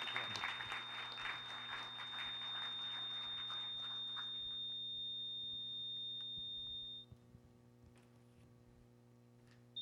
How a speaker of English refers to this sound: And if you want to welcome him with a hand clap, please do that.